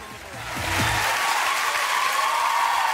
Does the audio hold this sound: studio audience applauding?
yes